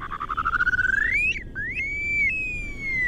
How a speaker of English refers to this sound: The open plains are ideal breeding areas for grouse and shorebirds whose active offspring must forage for themselves while their parents guard them, like these upland sandpipers.